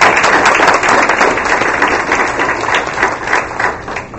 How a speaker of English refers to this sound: How about one more round of applause